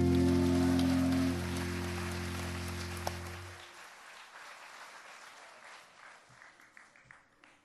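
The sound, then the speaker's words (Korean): A crowd claps along to a song, not quite in time, over sustained musical tones; the music stops partway through, and the dense clapping thins into scattered, uneven claps before fading. “박수치기가 잘 안 맞지요?”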